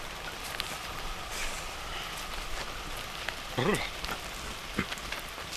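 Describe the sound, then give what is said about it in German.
Steady rain during a thunderstorm on a mountain summit hisses and patters without pause, a dense wash of drops on surfaces, broken once by a brief wavering voiced sound and a short knock near the end. “Ich bin nass bis auf die Haut.”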